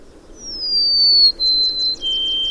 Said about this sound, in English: That's our June bird of the month, the golden-crowned sparrow. Hard to miss that bird's call. The three notes to me sounds like, I see you, come see me, or even, oh pretty bird.